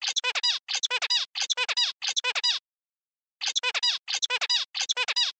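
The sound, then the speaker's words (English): Playback of a synthesized song modeled after typical zebra finch song, a stereotyped sequence of vocal elements, in repeated bursts of buzzy, harmonic chirps: four quick motifs, a short silence, then three more, fairly loud with no voices. “This is a song that we've synthesized from our stimuli, but this is modeled after typical zebra finch song.”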